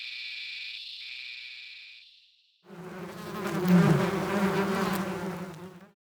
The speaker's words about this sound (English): The male cicada opens flaps on the side of its body and vibrates the skin inside. This makes a sound.